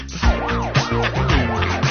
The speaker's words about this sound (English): Listen to the sirens.